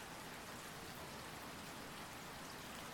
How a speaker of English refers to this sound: Why I'm still up? I just enjoy watching and hearing the rain fall down.